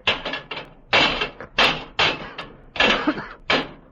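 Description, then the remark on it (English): Heavy metal levers repeatedly batter locked brass doors in the base of a monument: about eight loud clanging thuds in an uneven rhythm, each with a short ringing tail, and no voices. “Those are brass doors in the base and they're locked. The machine. It must be in there inside. We must get it. Break down the doors.”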